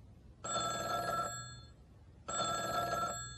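A telephone rings twice on a call to WBCL Community Television Studios, in a steady, repeating pattern, each ring a bright metallic trill lasting under a second with a short pause between, clear over a faint low hum.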